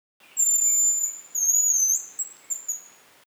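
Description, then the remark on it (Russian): A hazel grouse (Bonasa bonacea) calls alone in thin, very high-pitched whistles: two long drawn-out notes followed by a few short, quick chirps, clear against a quiet background. “рябчик, по-латински bonasa bonacea.”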